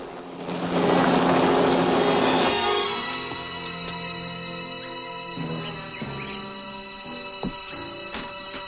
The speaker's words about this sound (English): The helicopter is returning to the docks.